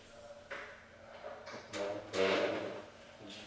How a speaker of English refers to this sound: Let's close this door, not their door. This one, right? Yeah, in the middle.